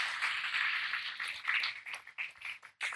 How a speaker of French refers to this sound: Mais gloire à Dieu. Franchement, applaudissez Dieu. Applaudissez Dieu.